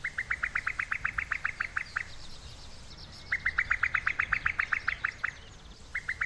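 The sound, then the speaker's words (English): A female cuckoo's bubbling, chuckling call: rapid runs of about a dozen quick liquid notes, repeated in three bursts with short pauses, clear over a soft outdoor background. “They themselves don't cuckoo, but rather utter a bizarre, bubbling, chuckling noise, especially when laying their eggs.”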